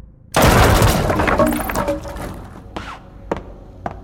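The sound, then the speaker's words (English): A sudden loud explosion bursts in as a bureau barricading a door is blown up, a broad roaring blast that decays over a couple of seconds, followed by scattered crashing debris and a few sharp clattering impacts as wood breaks apart. “You might want to stand back from that bureau you've barricaded the door with. because I'm going to blow it up.”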